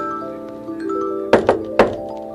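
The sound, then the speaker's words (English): Three sharp knocks rap on a door in quick succession, the first two close together and the third following a beat later, over a soft steady hum. “It's a knock on the door.”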